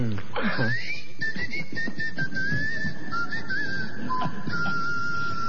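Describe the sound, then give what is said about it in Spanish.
A person whistles a long, thin, wavering tone that slides and hovers to imitate wind blowing through small holes in the Colossus of Memnon statue in Egypt, steady over a breathy, rumbling background. “Otros dicen que era el viento que pasaba por algunos agujeritos que el arquitecto había puesto con toda astucia, y el coloso de Memón chiflaba.”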